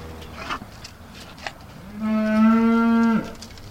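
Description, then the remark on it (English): A single beef cow lets out a long, loud moo lasting about a second, rich with harmonics, following a few softer, indistinct farmyard noises in the background, on a family farm in northern Indiana during evening chores feeding the cattle. “does his evening chores feeding the cattle.”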